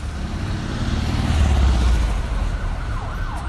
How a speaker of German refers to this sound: Der Verkehrsstau gehört ebenso zu Mexico City wie das Hupen, der Lärm und der Smog.